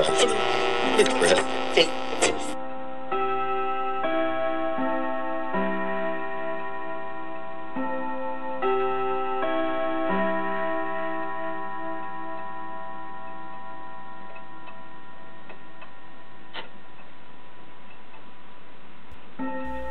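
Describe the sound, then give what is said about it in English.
A cuckoo clock ticks steadily over a sustained, humming mix of tones that sounds like old radio music, beginning with a brief louder burst before settling into a narrow, muffled band. “Darling, let me hold your hand while the cuckoo in the clock says, who, me?”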